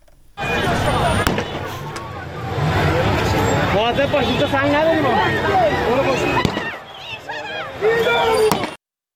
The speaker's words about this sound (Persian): همطور که گفتم گاز اشک‌آور شلیک شده، به سوی مردم تیراندازی شده که باز ما صدا رو میشنویم.